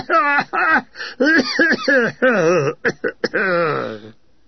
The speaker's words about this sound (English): The tannoy again. Hello, this is your... A burst of amplified coughing follows. It's our resident consumptive, I said. The coughing ceases.